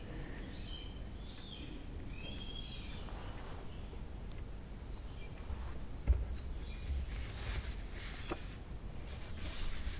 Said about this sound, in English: This thing about hearing sounds like that bird right now that we're hearing, every once in a while someone will ask in Doksan, am I supposed to be hearing, if I'm really absorbed in my practice, whatever it is, am I supposed to be hearing sounds